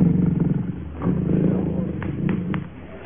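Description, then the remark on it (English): A big black-maned male lion roars in deep, rumbling bursts, a low throaty growl that swells, dips briefly, then rolls on, with a few faint clicks near the end. “The big black-maned male is the one. He is the one who is hungriest.”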